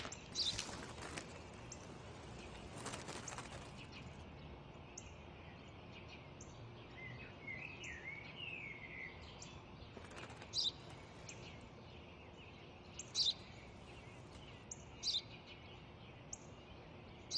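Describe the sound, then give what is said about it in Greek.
A sparrow chirps in short, scattered bursts, some sharp, others faint, against a quiet outdoor background hiss with no talking. “Τι είναι αυτό? Ένα σπουργίτι είναι, πατέρα.”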